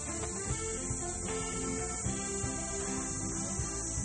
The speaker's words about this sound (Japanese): セミしぐれだけが優しく響く中